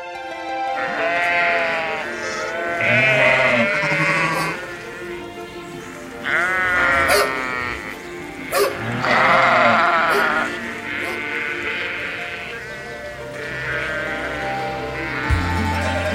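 A flock of sheep bleats repeatedly, several loud, wavering calls overlapping, with brief quieter gaps and a low rumble of movement underneath.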